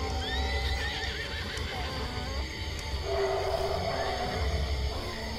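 Two horses, Coka and Šarac, whinny and snort restlessly, with wavering high neighs near the start and another around the middle, over a steady rustle of shifting hooves and movement.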